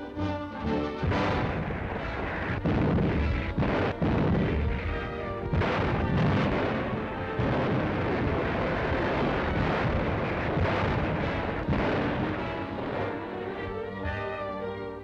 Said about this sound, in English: The men move to their posts, and through the black night, powerful batteries trained on enemy shore defenses shatter the stillness of the Arctic.